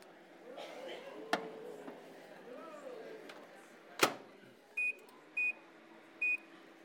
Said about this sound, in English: So, now into the microwave.